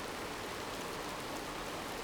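Steady rain pours down over Calcutta in Bengal in a dense, even hiss, falling continuously without pause, with no voices or other sounds breaking through.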